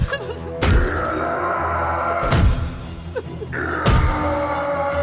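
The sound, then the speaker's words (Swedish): Three heavy, sharp blows of a crowbar against a door, spaced about a second and a half apart, each with a ringing, rattling tail over a low, steady background rumble. “Smällen från kofoten i dörren är skarp och brutal”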